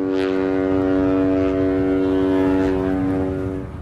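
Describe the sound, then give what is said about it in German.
A ship's horn in the harbour of Aden sounds one long, steady, deep blast with rich harmonics, loud and sustained for nearly four seconds before starting to fade at the end. “Ganz selten hört man ein Schiffshorn.”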